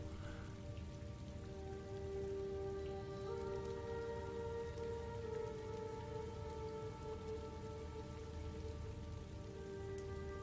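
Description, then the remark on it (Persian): Steady, heavy rain from a storm pours without pause, a dense constant hiss and patter with no voices, while a faint sustained tonal drone hums underneath throughout. “وقتی طوفان تمام بشه میان سراغ ما.”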